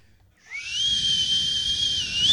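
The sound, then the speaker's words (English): A single sustained whistle starts about half a second in and holds a steady high pitch, bright and loud with a washy, echoing reverb tail spreading around it. “A little more reverb on that.”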